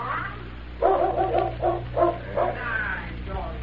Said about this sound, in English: The dog. Someone's coming, boss.